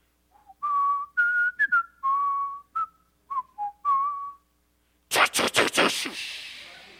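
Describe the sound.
A person whistles the short, bouncy theme tune of a TV show, about a dozen clear notes, fairly loud, followed by a burst of rough, noisy sound at the end.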